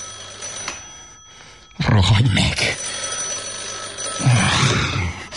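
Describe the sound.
A telephone bell rings in bursts with a brief pause between, fairly loud, while a person speaks over it.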